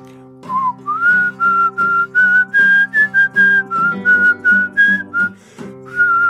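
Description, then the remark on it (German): A person whistles a tune, clear and fairly loud, with short phrased notes stepping through a melody over about six seconds, accompanied by a steady low harmonic backing like an instrument playing along. “Und hier möchte ich aber eine Besonderheit nennen, dass ich den, nämlich das Wort, was dann fehlt, was ich dann trotzdem den Ton pfeife.”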